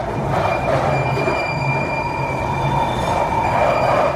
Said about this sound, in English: to have a little hunt online to see if I can find an audio recording that someone's made of like the screeches of the tube. Should be easy to find. But just to give you an example of what that sounds like, I'm going to insert the clip right here.